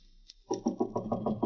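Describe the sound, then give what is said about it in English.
A quick, steady series of about seven firm knocks on a door, fairly loud, following a brief faint tap, with no voices, made by a man collecting rent on his weekly rounds. “Open up here. Saturday night.”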